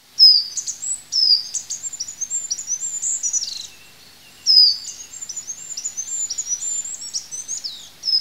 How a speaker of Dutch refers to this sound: Een ander leuk voorbeeld is misschien zoiets simpels als de roep van het goudhaantje. Dat is een klein vogeltje die in de heg zit en die piept zo hoog dat mensen met slecht gehoor het hem gewoon niet meer horen.